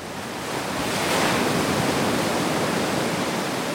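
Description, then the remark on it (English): A steady roar of Lake Superior surf at Stony Point, a surfing spot north of Duluth, with waves driven by northeast winds breaking, swelling louder about a second in and then holding as a dense wash of churning water. No voices. “Winds whipped for hours out of the northeast, pushing waves across hundreds of miles of open Lake Superior water, what surfers call fetch, straight at a well-known surfing spot north of Duluth called Stony Point.”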